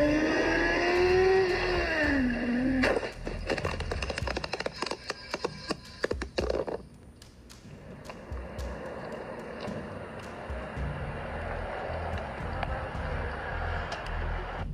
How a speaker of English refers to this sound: video out of Australia where a biker hits more than 160 miles an hour before slamming into the back of a pickup truck. He filmed the whole thing himself. Down in Australia, they call these riders hoons.